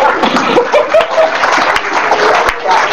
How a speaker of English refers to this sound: Give Jesus a clap offering.